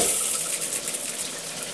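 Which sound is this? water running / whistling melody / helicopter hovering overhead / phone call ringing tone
water running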